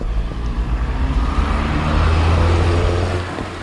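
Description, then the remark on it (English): A car drives past on a road, its engine hum swelling to a peak and then easing off as it moves away, with broad road noise throughout and no voices. “Let this car pass.”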